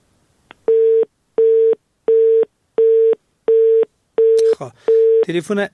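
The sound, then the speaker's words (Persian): A telephone busy signal after a phone call is cut off: about eight evenly spaced, steady beeps in a regular on-off rhythm, loud and clear, with a voice briefly cutting in over the last few tones. “تلفن در رئیس ایبام قطع شد.”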